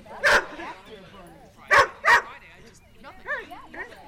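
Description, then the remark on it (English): Excited dogs at a dog racing event bark sharply three times, one bark then a quick pair, followed by higher yips and whines, loud over a low murmur of background voices. “Between the excited dogs and the slightly eccentric owners, Allegra event is carefully controlled chaos.”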